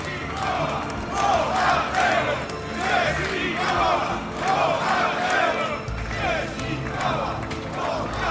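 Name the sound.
crowd shouting a chant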